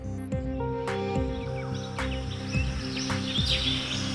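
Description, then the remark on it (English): A dense rainforest chorus of insects and wildlife: steady buzzing drones and layered trills, with chirping bird-like calls and a few sharp clicks popping out over the continuous hum. “You know, there are monkeys that are shrieking, and then a little bit of time passes and you can start hearing sort of the bugs come back in, and it's really interesting.”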